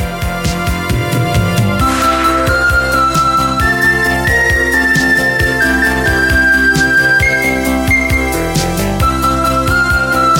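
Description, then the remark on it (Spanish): A thin, whistle-like synth lead glides through sustained high notes over a full music bed with steady bass and percussion hits; the tone sits clearly on top of the mix, no voices. “¿El tipo silbidito?”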